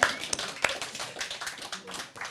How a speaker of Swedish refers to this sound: Och vi har livesändning i Radio Total Normal. Ja. Publiken är lite tveksam, men jag är själv nöjd, så vi tar en applåd.